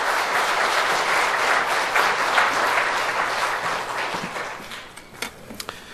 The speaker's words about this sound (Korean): 부임 설교인데 우리 여러분 박수로서 환영하면 감사하겠습니다.